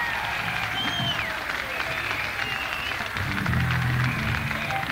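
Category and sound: crowd, audience applause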